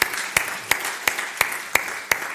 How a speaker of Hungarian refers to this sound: nem mellesleg a zenével együtt, ami most fantasztikus volt, és szeretném is, hogyha tapsolnánk egy nagyot, mert 9-en álltak a színpadon, és a kapacitásunkat teljesen kimaxoltuk most, úgyhogy halleluja!